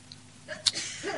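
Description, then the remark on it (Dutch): A single sharp sneeze: a quick indrawn breath, then a sudden explosive burst, with faint background hum. “Gezondheid.”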